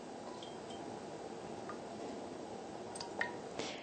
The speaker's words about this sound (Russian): Наливаем немножко воды в сковороду.